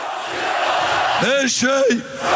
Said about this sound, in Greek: Όλα φωνάζουν, θα γίνουν υπέροχα, φωνάζουν οι οπαδοί του.